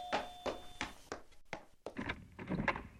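A front door is unlatched and opened for a visiting uncle after the doorbell rings, with a series of clicks, knocks and rattles from the handle and frame before it swings open.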